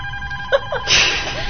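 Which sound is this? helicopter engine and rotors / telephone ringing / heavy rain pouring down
telephone ringing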